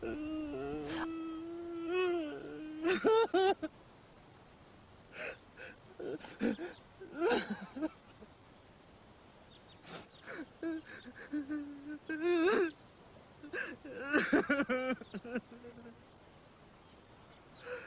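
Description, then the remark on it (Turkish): A man with his face pressed against a stone sobs bitterly, with wavering, strained wails broken by sharp, gasping breaths and shaky sniffles in uneven bursts. “… yüzünü taşa dayamış, yıkılmış bir halde acı acı ağlıyor.”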